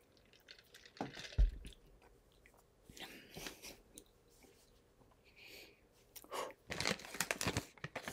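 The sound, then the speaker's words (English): Slurping and sipping sounds from a drink, a few wet, crackly bursts spread over several seconds, with a louder cluster near the end and no talking. “Let me try another sip here.”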